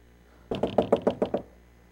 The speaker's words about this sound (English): And we come up the drive, and we see. And we come up and knock on your door.